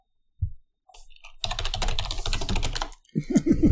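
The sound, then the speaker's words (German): Loud, rapid clattering of a computer keyboard being typed on, a dense burst of keystrokes lasting over a second, followed by a few short low thumps near the end. “Ja, meine Tastatur ist etwas laut.”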